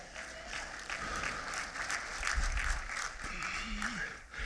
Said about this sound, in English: I've got to praise Him right now. I've got to clap right now. I've got to worship Him right now.